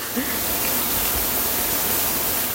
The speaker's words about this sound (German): Wasserfall bei Anhausen.